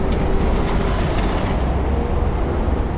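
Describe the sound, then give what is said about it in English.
Road traffic noise at 73 decibels, played to plants in an experiment: a steady, loud roar fills the whole stretch, a dense low rumble with no breaks and no voices. “Half were put in a space that was still happy and healthy, but involved 73 decibels of traffic noise being played.”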